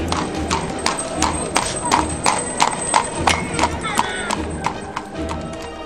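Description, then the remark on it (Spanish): Horse hooves clip-clop at a steady, even trot as horses pull a cart. The regular beats keep going throughout at a walking pace over a low, rumbling background. “cuando de repente aparece la muerte. Pablo, con sus caballos y su carreta.”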